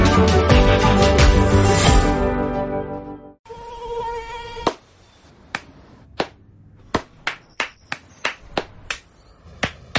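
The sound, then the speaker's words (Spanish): After a burst of music, a thin, whiny mosquito buzz hovers, then a run of sharp, irregular claps or snaps cracks out over the next several seconds. “No aplaudamos al mosquito, combatámoslo en serio.”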